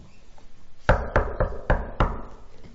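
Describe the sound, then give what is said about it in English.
Five sharp knocks on a wooden door in an irregular rhythm, fairly loud, with a faint background hum and no voices. “A knock on the door.”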